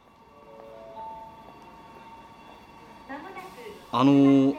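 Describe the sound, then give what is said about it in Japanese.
Train station platform ambience at a station with trains toward Koshien: a steady low rumble and electrical hum, then a loud, bright tonal blast near the end as a train sounds off. “この電車は甲子園へ行きますか？”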